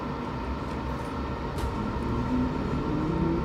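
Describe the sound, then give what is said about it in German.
A suburban commuter train pulling away, with a steady, dense low rumble and a faint electric whine that rises gradually in pitch, continuous throughout, with no voices. “Ja, aber es ist tatsächlich die Abfahrt einer S-Bahn.”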